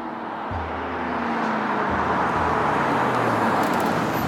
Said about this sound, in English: I was feeling pretty optimistic when I pulled Ashton's car into the parking lot of the meet.